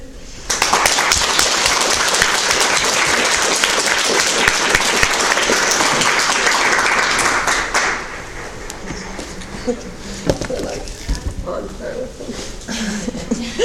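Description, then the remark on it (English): A large audience claps together in unison, loud and dense for about seven seconds, then the applause fades abruptly into quieter room noise with voices talking. “Yeah, they're clapping in synchronicity.”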